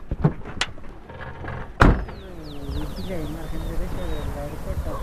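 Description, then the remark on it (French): A couple of sharp clicks and a loud car door slam, followed by the whirring of a car window moving while people talk in the background, on a car trip up one of the hills overlooking the valley and village of Chinchero near Cusco, Peru. “Pour nous expliquer sa position, il nous emmène en voiture sur l'une des collines qui surplombe la vallée et le village de Chinchero.”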